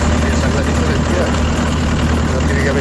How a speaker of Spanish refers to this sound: Suena más el tractor que tú.